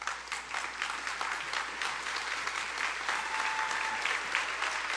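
An audience standing together and applauding in joy for families, steady dense clapping that holds at an even level for the whole stretch, with no voices standing out above it.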